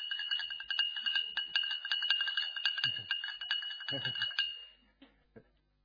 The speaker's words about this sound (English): Not only that, but when they stir up their coffee.